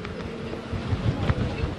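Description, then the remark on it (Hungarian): Strong gusting wind, with gusts above 60 km/h, buffets the microphone outdoors by Lake Balaton at Badacsony, Hungary, a steady low roar with surges and rumbling bursts growing louder toward the middle and end. “Nagyon fúj a szél, tehát a legerősebb széllökések egyébként 60 km/h felett alakulnak itt a tó környezetében,”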